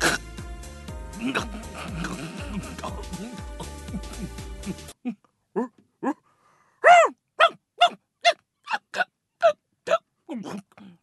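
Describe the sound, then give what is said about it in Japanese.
A dog named Pome barks wildly in a rapid run of about ten sharp barks, following a few seconds of dense, busy noise. “野生に戻りましたわ。 多分犬のキャパシティをオーバーしたんだ。”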